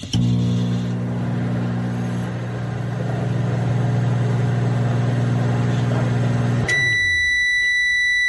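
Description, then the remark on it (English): A microwave oven runs with a steady electric hum for several seconds, then cuts off and gives a loud, high-pitched beep to finish. “You heard the whole run. That's a microwave.”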